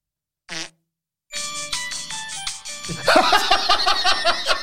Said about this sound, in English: Hear what Santa's fart sounds like, shall we?